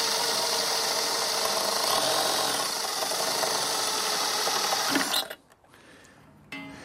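A power drill bores 3/8-inch holes in wood, its loud, grinding whir running steadily for about five seconds before abruptly cutting off into near silence. No one speaks.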